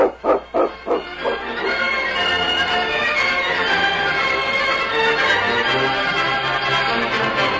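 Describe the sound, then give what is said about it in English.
A dog named King barks four or five times in quick succession, loud, before the barking gives way to a steady, dense wash of sound that fills the rest. “If your dog had eaten that fish...”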